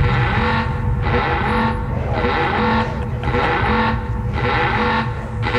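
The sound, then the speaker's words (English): A loud, harsh film alarm sound effect, sounding aboard the ship Enterprise, blares in regular pulses, roughly one burst per second, over a continuous buzzing drone with no voices. “But before we get to that, the worst alarm sound in the history of celluloid.”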